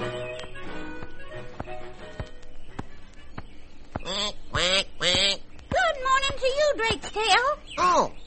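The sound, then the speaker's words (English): A voice imitates a duck, giving a quick series of nasal, honking quacks, after a few seconds of quieter tapping and faint background sounds. “Quack, quack, quack.”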